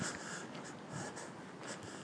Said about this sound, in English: Listen to that rain. You might be hearing it splattering the iPhone.